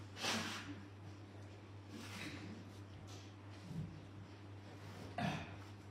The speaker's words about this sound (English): Sorry, I need to blow my nose.